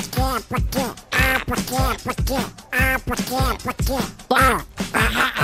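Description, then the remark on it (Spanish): A duck quacks loudly and repeatedly, roughly a dozen nasal, rasping calls in quick, uneven succession with no talking; an injured, disoriented duck on Las Canteras beach in Las Palmas de Gran Canaria, caught by local police. “Porque Operación Patocho en las canteras, un pato a la fuga, es rescatado por la policía local.”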